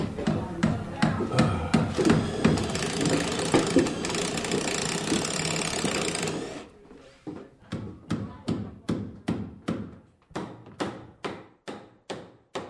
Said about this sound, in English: Almost a year after the April 27th tornadoes, the sound of chainsaws is replaced with the sound of hammers and drills. Contractors are working away on the wiring of the house.